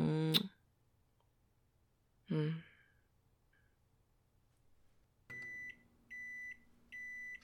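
A microwave signals that lemon chicken is done with three steady, evenly spaced high-pitched beeps, following a couple of short breathy vocal sounds like sighs earlier on.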